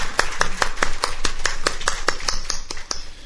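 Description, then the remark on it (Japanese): Steady, evenly spaced welcoming applause at a church service for a member's wife who recently arrived in Japan from Indonesia: about fourteen sharp claps at a quick, regular pace of roughly five per second, fairly loud, with no talking over them. “今日は一緒ですので歓迎の拍手をしたいと思います。”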